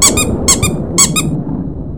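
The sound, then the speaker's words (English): Rufus the dog's favorite squeaky toy is squeezed three times outside behind a garage in a storm, in a steady rhythm. Each squeeze gives a quick, high-pitched double squeak over a constant rumbling of hail, driving winds and thunder. “She hurried back inside and grabbed Rufus's favorite squeaky toy.”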